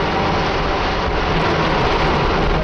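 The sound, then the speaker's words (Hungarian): A dense, unbroken hum of many bees, loud and steady for the whole stretch, with a broad buzzing texture and no voices or breaks. “Mézümmögés.”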